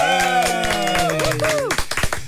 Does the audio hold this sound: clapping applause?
yes